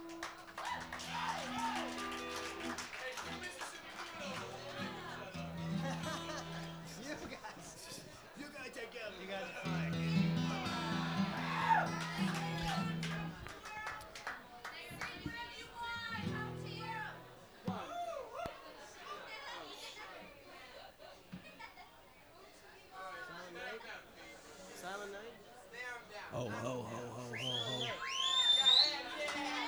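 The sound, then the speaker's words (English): A loud, steady din of many overlapping voices, adults and children chattering and calling out at once, with a brief high squeaky whistle-like note near the end. “We'll do that one if you can get those people to be quiet over there.”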